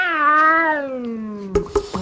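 A cat lets out one long, drawn-out meow that slowly falls in pitch, heard clearly, followed by a few quick soft clicks or taps.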